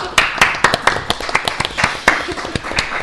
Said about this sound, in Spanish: Gracias, hazlo tú. Un aplauso para hazlo tú.